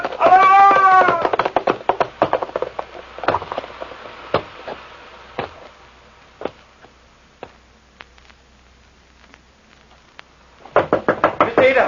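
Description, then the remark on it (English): Someone knocks on a door over and over: a dense, loud flurry at first, then sharp single raps at uneven intervals, and another rapid burst at the end. A wailing cry sounds with the loudest bursts. “Open the door.”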